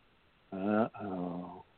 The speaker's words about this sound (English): Uh-oh. I can hear them snoring. I think they fell asleep.